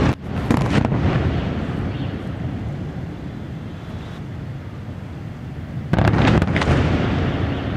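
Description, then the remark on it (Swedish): A heavy, distant explosion from an airstrike in Beirut, Lebanon, booms and then rumbles on in a long low roar, with a second sharp blast-like burst near the end, all over a constant outdoor background. “Explosioner från flygattacker som även på avstånd får luften att tryckas ur bröstet och billarm att gå.”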